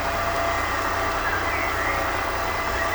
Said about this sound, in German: Halt, stopp! Nicht abschleppen! Das ist mein Auto!